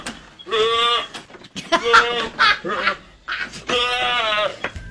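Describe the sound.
A person imitates the bleat of mating goats with drawn-out, wavering cries, three strained bleating bursts in close succession, loud, with no other sounds around them.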